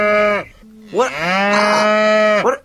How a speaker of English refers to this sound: Hey, man, you see all them cows over there congregating? Those cows are huge. Everything's bigger in Texas.